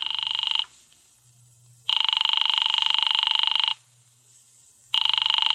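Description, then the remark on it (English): A telephone rings loudly and repeatedly, with long trilling bursts separated by short pauses, as a call to Diamond's office goes unanswered. Nobody picks up, and only a faint low hum fills the gaps. “His office don't answer.”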